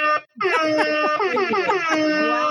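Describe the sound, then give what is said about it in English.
A hip hop air horn sound effect played from a button: a short blast, a brief gap, then a long burst of loud, brassy, overlapping horn tones whose pitch wavers and stutters. “if I can get my hip hop air horn button to work, you get all of them.”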